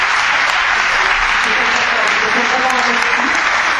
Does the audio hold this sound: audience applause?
yes